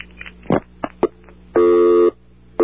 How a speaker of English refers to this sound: You want to hear a good busy signal? Sure. I'll just to digress for one moment here. This is the best busy signal I've ever heard. Going through. Listen to that.